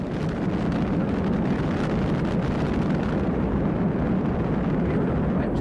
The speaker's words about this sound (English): it had to complete a final certification test that included a 20-second firing of the three main engines. 9, 8, 7, 6. Officially known as the Wet Countdown Demonstration Test, it verified all the systems on the ground and in the spacecraft.